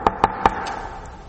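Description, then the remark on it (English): Three sharp knocks rap on a door in quick, even succession, followed by a fainter fourth tap, with a ringing resonance lingering after each hit. No one speaks. “Who's that knocking at the door?”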